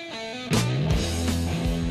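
Loud heavy metal music kicks in after a brief quieter intro, with thick distorted guitar chords and pounding drum hits driving a steady, heavy rhythm.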